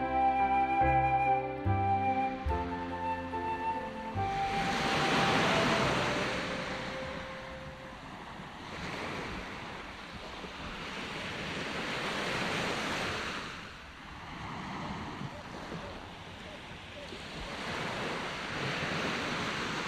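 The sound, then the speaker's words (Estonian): A few brief musical notes open, then rough waves on a stormy lake surge and crash repeatedly in loud, rolling swells, with a steady rush of wind beneath them and no voices. “Aga enne kui seda jutukest kuuleme, viib piiblilugu meid hoopiski tormisele järvele.”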